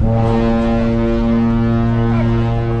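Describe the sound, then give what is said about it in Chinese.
A deep, sustained ship's horn of the Chinese Navy training ship Zheng He blares loudly and steadily as the ship slowly leaves the dock, its low harmonic tone unbroken, with no one speaking. “伴随着悠扬的汽笛声，海军郑和舰缓缓驶离码头，学员们的航海实习第一课随即展开。”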